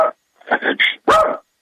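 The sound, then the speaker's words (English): A Yorkshire terrier barks in a quick burst of shrill, high-pitched yaps, about four or five close together, fairly loud, with no one talking. “It's a Yorkie, and he's driving me crazy.”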